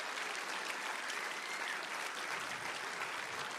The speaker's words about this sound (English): Clap your hands to the glory of the Lord.